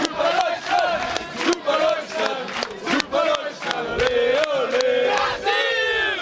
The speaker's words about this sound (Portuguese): Se no início os brasileiros rivalizavam o grito de guerra...